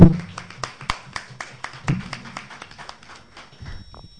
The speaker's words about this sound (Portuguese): Então, declaro eleita essa chapa para dirigir os trabalhos no ano de 2007 e empossada a partir do dia 1º de janeiro de 2007. Uma salva de palmas, então, aos eleitos.